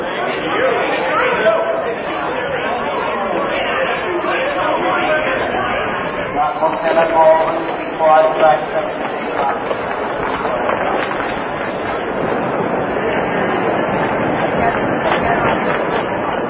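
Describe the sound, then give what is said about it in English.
Dense crowd chatter fills the whole stretch, a steady wash of overlapping voices with no single speaker standing out, holding an even, fairly loud level throughout. “Never gonna find her in this crowd.”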